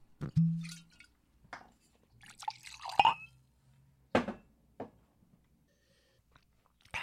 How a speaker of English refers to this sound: I'm just going to have a drink while you go get your pencil.